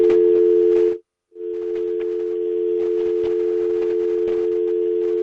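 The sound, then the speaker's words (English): A loud, steady telephone dial tone hums on its own, interrupting a phone call, cutting out briefly after about a second before resuming unbroken to the end, with faint line noise beneath it. “Okay, we've got a little phone system.”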